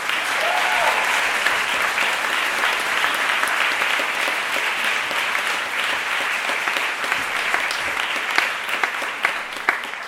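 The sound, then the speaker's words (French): Sustained audience applause, a dense steady patter of many hands clapping at a fairly loud, even level for about ten seconds, with no talk over it. “Et je pense qu'on peut l'applaudir rien que pour ça.”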